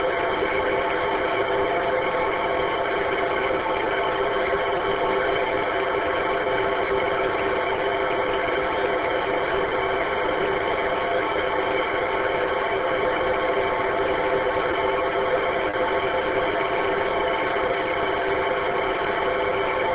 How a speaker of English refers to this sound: Well, if there's a station in there with all noise, it sounded like a digital transmission. I didn't get any audio.